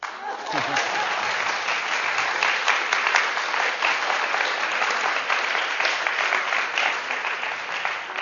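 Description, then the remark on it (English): An audience claps steadily for several seconds, a dense, even patter of many hands that stays loud throughout without a break, with no voices standing out. “You can clap because you agree.”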